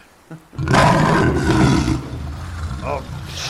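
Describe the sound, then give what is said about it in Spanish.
A lion's roar bursts out loud and raspy, holding for over a second before trailing off into a lower rumble, with a brief high squeal near the end. “¡Se ha transformado en león!”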